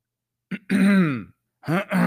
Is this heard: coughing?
yes